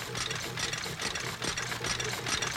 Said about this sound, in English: Cotton candy hangs on a crisscross of clotheslines overhead as the wheels and gears of a fire truck red taffy machine spit out 145 pieces a minute.